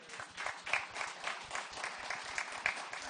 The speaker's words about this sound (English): I didn't expect applause. I anticipated stones.